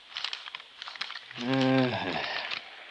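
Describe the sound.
Paper rustles and crinkles as pages of building specifications are gone over page by page in short bursts, with a brief voiced murmur or hum rising through the middle of the handling.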